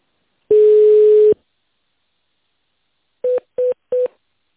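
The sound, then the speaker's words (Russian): Touch-tone telephone dialing of an extension number after the company Sun's automated phone greeting: one longer steady tone, a pause, then three short, evenly spaced beeps in quick succession. No voices are heard. “Или наберите добавочный номер в тональном режиме.”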